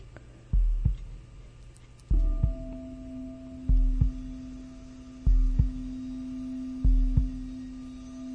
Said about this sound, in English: Start with concentrating on the heartbeat and certain tones to get people to become aware of going inside rather than remaining external. And then slowly different sounds come into play.